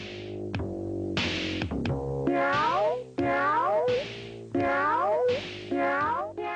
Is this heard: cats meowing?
yes